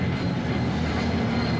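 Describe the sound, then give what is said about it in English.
A steady, loud rumble of a cable car rolling along its rails, with dense low-frequency grinding and a continuous mechanical clatter throughout, no voices. “Oh, good cable car sounds.”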